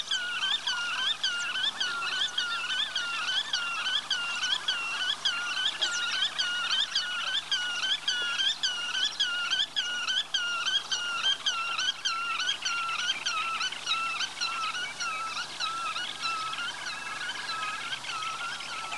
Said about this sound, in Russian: кулик. Веретень, веретень. За эту песню его и зовут Веретенник.